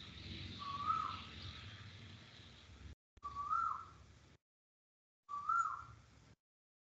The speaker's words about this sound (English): The bird's not broken. The bird's just singing. Allow it to be a song.